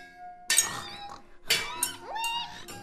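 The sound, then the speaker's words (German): Sharp metallic clinks ring out in a few bright bursts as blacksmiths hammer metal, forging swords, each strike leaving a lingering tonal ring before fading. “Guck mal, da hinten sind Schmiede. Lass uns mal dahin gehen. Die schmieden da Schwerter.”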